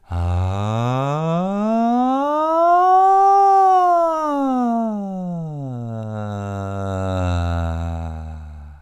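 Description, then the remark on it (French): A single voice performs a slow, full vocal siren across nearly the whole vocal range, gliding smoothly from a low pitch up high and back down, then rising and falling more gently, sustained and steady, soft and not too loud, with an airy tone. “Là, on est vraiment sur des sirènes complètes, sur presque toute votre étendue vocale. Très douce, pas trop fort, avec de l'air.”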